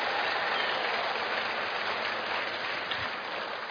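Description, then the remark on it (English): An audience claps for a married couple, steadily, a dense wash of many hands at an even, loud level throughout with no voices over it. “So, if you're a married couple, you can clap for them one more time if you want to.”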